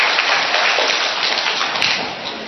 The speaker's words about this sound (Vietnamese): Rồi một tràng pháo tay thưa anh chị em ở con.